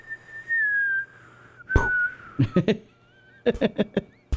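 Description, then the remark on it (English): A person whistles a long, slowly descending cartoon falling tone, like Wile E. Coyote falling off a cliff in the Road Runner cartoons, clear, followed by a cluster of sharp, percussive taps and thumps in quick bursts. “A cliff and you hear pfft. Yeah. Yeah, with the whistle on the way down.”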